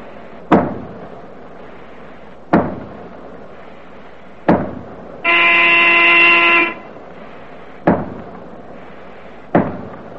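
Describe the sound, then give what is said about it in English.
A submarine diving alarm sounds as the boat dives immediately: one loud, buzzing klaxon blast lasting over a second, set among five heavy metallic clanks that land every couple of seconds. No one speaks. “Down the diving alarm!”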